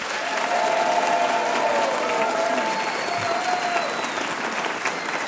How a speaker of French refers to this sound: que nous accueillons avec des applaudissements fortement nourris.